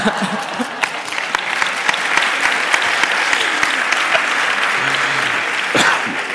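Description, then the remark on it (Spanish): An audience in Córdoba breaks into sustained applause for a speaker, a dense crackle of many hands clapping that stays loud and steady throughout, with a few faint voices mixed in. “No te puedes ir de Córdoba sin un aplauso.”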